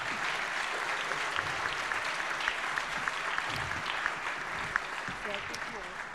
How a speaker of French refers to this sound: Cher public, cher juré numéro 7, nos 6 jurés précédents, vous pouvez tous venir sur scène. On délibère, on peut les applaudir.